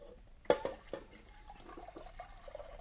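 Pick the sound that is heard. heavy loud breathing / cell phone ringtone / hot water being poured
hot water being poured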